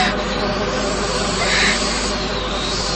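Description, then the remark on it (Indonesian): A snake's hiss runs steadily for about three seconds, a loud, breathy rush of noise that holds an even level without pauses, with no voices alongside it. “Suara desisan ular.”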